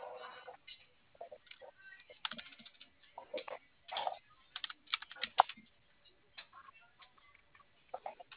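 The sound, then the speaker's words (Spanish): Someone types on a computer keyboard in quick, uneven bursts of clicking keys, fairly quiet, with short pauses between flurries and no talking. “¿Sí prendió el teclado?”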